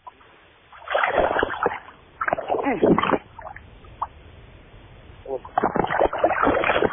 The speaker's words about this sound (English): Whoa. I can hear that. That's now the splashing in the water of the bass as the angler is busy fighting it.